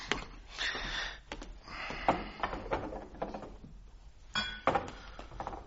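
A small glass bottle holding a liquid clinks several times, light glassy taps and rattles scattered irregularly across a few seconds with no voices present.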